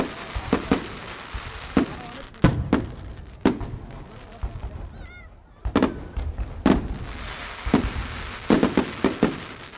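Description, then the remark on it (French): Fireworks set off over a large river: a string of sharp, loud bangs at irregular intervals, some in quick clusters, with a brief whistling squeal midway and a steady crackling rumble between blasts. “Elle portait des flambeaux, et le prince, en les suivant avec Chatte Blanche, entra dans une magnifique galerie qui régnait le long d'une grande rivière sur laquelle on tira un feu d'artifice surprenant.”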